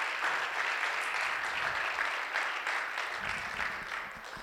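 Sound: church audience applause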